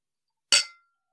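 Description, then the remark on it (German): A single bright clink of glasses touching in a toast, sharp, with a short ringing tail that fades within a fraction of a second. No voices are heard around it. “Stößchen, ihr Rührigs. Prost. Prost.”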